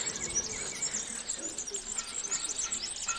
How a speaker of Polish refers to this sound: Zawsze jak z rana można wyjść sobie przed liturgią, jak jeszcze nie jest tak gorąco. Słoneczko dopiero zaczyna grzać powolutku. Słychać piękne śpiewy ptaków. To jest bardzo ciekawe, bardzo takie miłe dla ucha. Taki spokój i modlitwa ptaków.